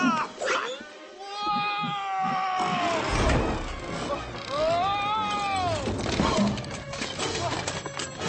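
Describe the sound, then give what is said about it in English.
A cat yowls and caterwauls loudly in long, wavering, rising-and-falling cries over a busy background with some voices and clattering. “Come on, you stupid cat!”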